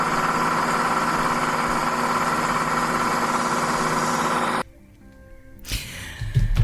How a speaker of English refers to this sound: Yes, and suddenly the sound of a tractor fetched me out of my world. It comes fast from above the way behind the corner.